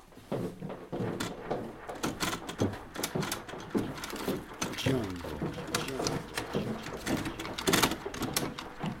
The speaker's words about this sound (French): Il est temps de sortir les cassettes du frigo.